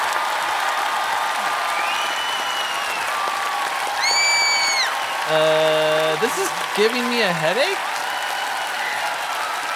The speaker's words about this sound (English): Who even invented clapping? It's a weird thing to do.